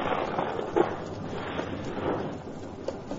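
A storm sound effect: a steady, dense roar of rumbling noise with a brief sharper burst early on and gentle swells in loudness, no voices present.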